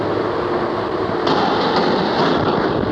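A large steam-driven water pumping engine runs with a steady, loud mechanical roar, a dense mix of low rumble and hissing clatter that grows brighter and harsher about a second in, with no voices.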